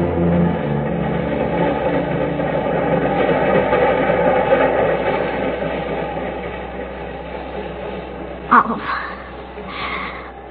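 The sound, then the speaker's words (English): A subway train rumbles along steadily with a continuous low, droning roar and rattling undertone, broken near the end by a sharp metallic clack before the rumble carries on. “Subway go faster.”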